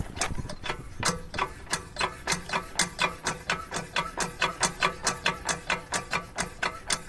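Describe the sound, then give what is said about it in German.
A hand water pump, used by children to play with water in summer, is worked to draw water in a steady rhythm. Each stroke is a sharp clattering, squeaky mechanical clunk, about three per second, fairly loud and continuous with no voices. “Deswegen gibt es nämlich diese Pumpe hier.”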